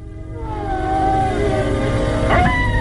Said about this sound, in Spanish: se estremece al escuchar un tétrico aullido. ¡Un lobo! Palidece. Tiembla. Mira a su alrededor tratando de saber dónde está el enemigo. Es difícil saber dónde está entre la niebla. Y parece que son muchos.